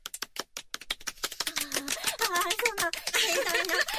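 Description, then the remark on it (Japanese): Brisk audience applause welcoming a guest voice actress, rapid overlapping hand claps that grow fuller and louder, with people's voices talking and exclaiming over it in the second half. “盛大な拍手ありがとうございます。”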